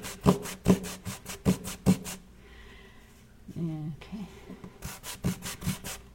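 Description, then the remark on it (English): A sanding block or sponge rasps back and forth across a surface in quick, rhythmic strokes, pausing briefly while a voice speaks, then resuming the brisk scrubbing. “I love working with these on surfaces like this. These sanding blocks or sponges or whatever.”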